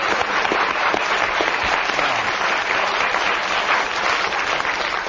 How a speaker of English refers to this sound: You can give him a round of applause for what he said.